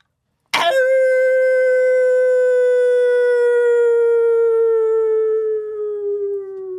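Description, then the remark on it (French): A single long wolf howl rings out loud in a forest at night after a sudden start, holding a steady, slowly sinking tone for several seconds with nothing else around it. “je n'ai pas peur du loup”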